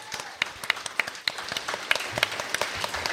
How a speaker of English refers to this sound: And while we're at it, we got to give a major round of applause as well for the First Lady of the Country Squire